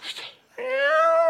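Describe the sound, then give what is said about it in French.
A voice imitates a cat: a short breathy, hissing onset, then one long, drawn-out meow with a slightly rising, nasal tone, fairly loud. “C'était un chat.”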